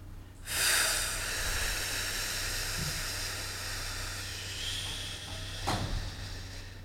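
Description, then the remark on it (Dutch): Several people in a live audience at the Health Festival in Amsterdam exhale together in one long, steady breathy hiss lasting about six seconds, with a brief sharper puff of breath near the end. No one speaks. “Dus doe even niks en blaas alleen even uit.”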